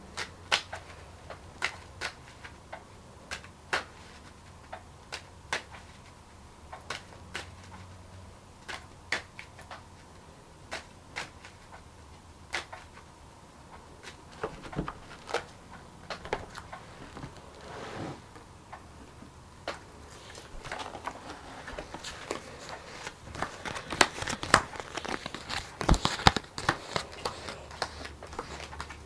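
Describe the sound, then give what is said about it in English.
Playing cards being shuffled and then cut into three piles: sparse, sharp clicks and taps of cards handled at an irregular pace, building to a busier flurry of snapping and rustling near the end. No one speaks. “All right, shuffle and cut into three like you did before, but thinking about the year ahead.”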